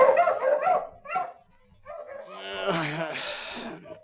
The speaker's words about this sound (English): Suddenly, the savage barking of his dogs outside the little trailer house awakened him from his slumber.